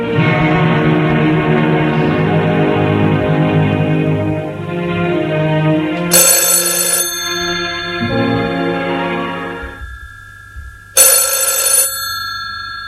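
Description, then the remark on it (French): A telephone bell rings twice during the day, each bright metallic burst trailing off into a lingering tone, the rings several seconds apart over a soft sustained musical backdrop. No one speaks. “Dans la journée, le téléphone sonne.”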